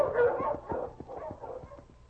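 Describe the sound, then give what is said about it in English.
Several sled dogs, led by the lead dog King, bark and yip excitedly in rapid, overlapping bursts as they are urged on, steady throughout, with no talking over them. “All right, King. Up front, boy. On, King! On, Husky!”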